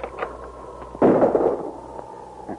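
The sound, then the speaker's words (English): A single loud gunshot cracks out about a second in, its booming tail fading over half a second, with a low background hum before and after; fired by a crook at a man building a campfire near the rim of a steep-walled canyon. “Good shot.”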